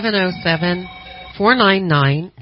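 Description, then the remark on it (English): A voice imitates a telephone ringing, producing a few warbling, sing-song tones in quick bursts with brief gaps between, fairly loud, sounding thin as if heard over a phone line. “would you like to answer the phone? Answer the phone.”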